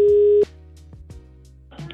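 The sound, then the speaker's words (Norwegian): A telephone ringing tone on a call: one loud, steady mid-pitched beep lasting about half a second, then cut off, leaving a faint line hum, a few soft clicks and a brief rustle at the end. “Ringe.”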